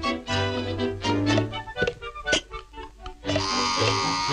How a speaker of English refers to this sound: More elves attach legs to the bodies and hammer them into place, making rocking horses. A different elf drills a hole into the back of the toys.